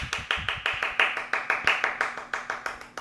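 Brisk, steady clapping, roughly twenty sharp claps in an even rhythm, fairly loud and alone with no talking over it.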